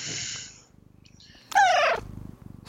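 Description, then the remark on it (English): A cat purrs steadily, then lets out one short, loud meow midway before settling back into purring. No one speaks. “My kitty was talking.”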